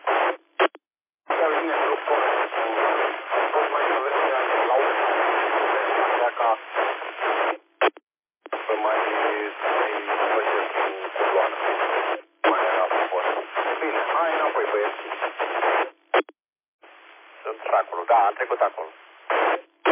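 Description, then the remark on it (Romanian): A crackly, band-limited radio transmission from far away, with a voice buried under steady hiss and static, cutting out briefly several times before resuming. “Da, vine zgomotos, normal, că e distanța mare și asta e.”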